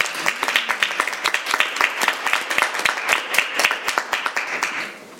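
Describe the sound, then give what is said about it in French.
A small group at a municipal council meeting applauds with dense, irregular hand claps for about five seconds. The clapping is steady in loudness before thinning out and fading at the end. No one speaks. “Monsieur le maire, j'aimerais qu'on donne une main d'applaudissement”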